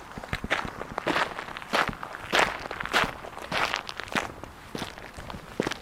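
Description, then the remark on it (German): Footsteps walking outdoors around a fence by the so-called Silbersee at a steady, even pace, each step a crisp, gritty crunch, about ten or eleven in a row, with no voices. “Ich bin jetzt hier noch ein paar hundert Meter gelaufen um den Zaun rum, um den sogenannten Silbersee, den man kaum noch sieht.”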